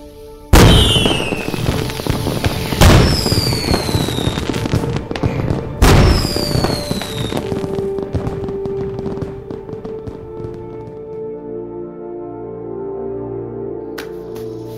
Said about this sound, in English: Hand me the fireworks. This should be sufficient. Time to get rid of these for good.